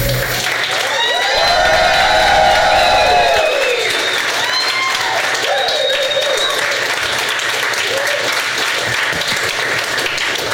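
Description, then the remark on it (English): An audience at the show Doug Loves Movies applauds steadily and loudly throughout, with whoops, shouts and high cheering voices rising over the clapping in the first few seconds before settling into continuous applause. “Oh, that was very hearty.”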